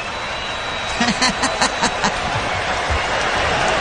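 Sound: ballpark crowd cheering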